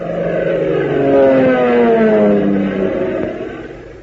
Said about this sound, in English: Say, doesn't the sound of that plane motor do something to you? Doesn't it make you want to be a flyer?